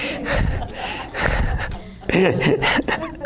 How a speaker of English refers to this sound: Man, I just got some exercise there. I'm breathing hard now.